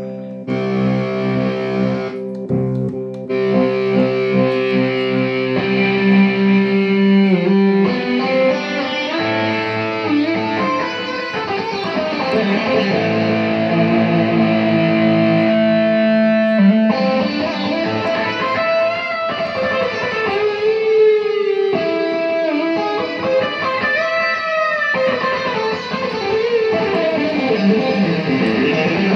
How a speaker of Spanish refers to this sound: Autotune, Guitar Rig 5, acá lo tengo. Vamos a cargarlo.